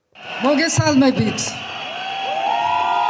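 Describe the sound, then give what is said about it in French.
A large crowd of thousands of political supporters in Tbilisi, Georgia, cheers and shouts around the outgoing president after her last speech, with excited voices at first, then a steady, sustained roar of many people and a few rising whoops or whistles. “Après son dernier discours dans son costume de présidente, elle s'offre un bain de foule au milieu des milliers de partisans venus l'écouter.”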